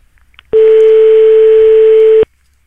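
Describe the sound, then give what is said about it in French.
A single steady telephone tone sounds loud, holding evenly for nearly two seconds before cutting off abruptly, with near silence around it and no one speaking, as a phone number is dialed to call a shop in Paris. “Allez, je compose après le premier numéro de téléphone.”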